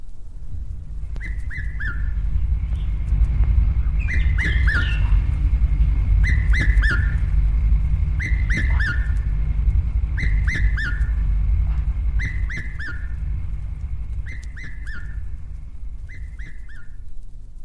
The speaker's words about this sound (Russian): Кукушка красногрудая.